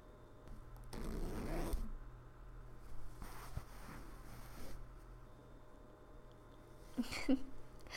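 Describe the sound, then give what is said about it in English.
A clothing zipper is pulled in a few short, raspy bursts, the longest early on, then two quicker tugs and a final brief zip. Fairly quiet, with no talking. “Yeah, the zipper is right there. Just give it a little pull.”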